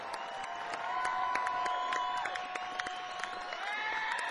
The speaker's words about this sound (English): Let's have a big round of applause for this band up here tonight.